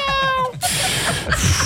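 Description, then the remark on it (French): A person imitates a cat with a drawn-out, wavering meow, starting on a clear harmonic tone and then breaking into a breathy, noisy stretch, fairly loud. “C'est pourquoi, pendant les 5 prochaines secondes, je vais faire le bruit d'un chat qui fait le trottoir et qui fume une clope.”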